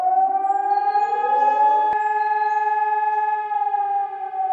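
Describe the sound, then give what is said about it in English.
A loud civil defense fire siren, installed on top of the fire company's building in April 1924, wails steadily, its layered harmonic tones rising at first and then holding a sustained, droning pitch, with no voices present. “A one-bay opening provided shelter for the truck, and in April of 1924, a siren was installed on top of the building.”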